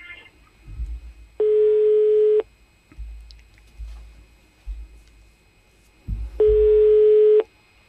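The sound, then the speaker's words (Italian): A telephone line tone sounds twice during a call to Bossi's phone number, each a steady, loud hum lasting about a second, separated by a long pause with faint low rumbling and handling noise in between. The phone does not ring through. “Risponde o no? No, non squilla.”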